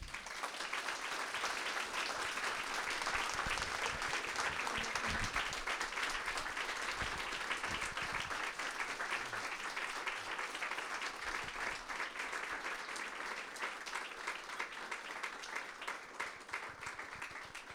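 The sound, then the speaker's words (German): An audience applauds the closing words of a book reading, clapping steadily for the whole stretch, a dense, even patter of many hands at a fairly constant level, easing slightly toward the end, with no voices on top. “Ich finde, für diese Schlussworte der Lesung hat Tami auf jeden Fall Applaus verdient.”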